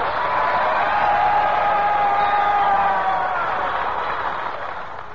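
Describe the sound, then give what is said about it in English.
The studio audience of the Eddie Cantor Show breaks into sustained applause and cheering after the announcement that Harry Bonzel will not be with them, a dense wash of clapping and voices that holds steady for several seconds before easing slightly at the end. “They always applaud when they hear my name.”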